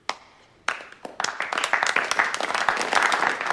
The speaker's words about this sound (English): The audience in formal attire stare solemnly. Tommy, Lord Cromer, who sits with Laura in her private box, begins to clap.